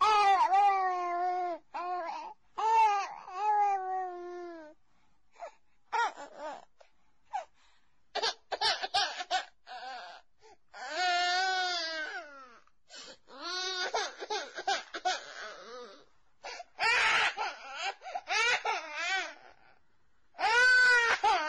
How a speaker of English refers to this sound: Which sound is more disturbing? The crying child? Or the total absence of footsteps from anyone coming to help?